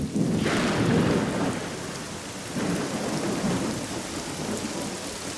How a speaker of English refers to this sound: Look at this rain. There'll be no more famine in Harren. Don't you understand? It began to rain when Jacob and Rachel's baby was born.